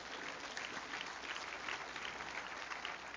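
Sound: audience clapping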